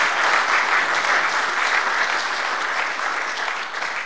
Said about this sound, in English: let's give one final round of applause to our panel for an excellent presentation.